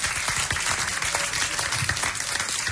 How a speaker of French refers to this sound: s'il vous plaît, sous vos applaudissements. Bravo.